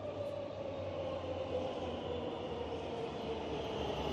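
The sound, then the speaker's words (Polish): A loud, steady rumble of a subway train running, with a low droning hum and a faint whining tone holding constant throughout, no voices present. “Metro. Autonomiczne.”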